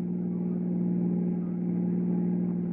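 car engine accelerating

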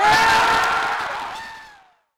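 large rally crowd cheering

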